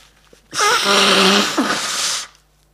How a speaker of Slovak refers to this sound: Môžem sa vysmrkať?